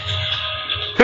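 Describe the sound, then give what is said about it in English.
A sudden, loud sneeze bursts out at the very end, after a stretch of steady muffled background noise. “Bless you.”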